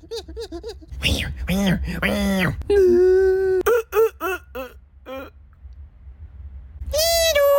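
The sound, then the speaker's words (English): A voice imitates a whimpering puppy with a run of high, wavering whines and short yips, rising and falling in pitch, some drawn out into sustained cries, fairly loud throughout. “It's a puppy. Hey there, there, puppy. Aw, you sound so cute.”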